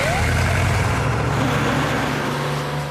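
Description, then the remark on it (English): A bus engine idles with a loud, steady low rumble and throbbing hum that holds without a break from start to finish. “I need to get on the bus.”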